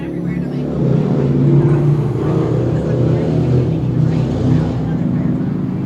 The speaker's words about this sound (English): Hold on, there's some loud ass motorcycles coming over here for no reason.